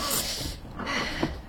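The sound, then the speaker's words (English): A small car's engine cranks over and over without catching as someone tries to start it to warm it up, a steady grinding churn that surges in two rough bursts, moderately loud, with no one speaking. “Come on, little car. Not first time, please.”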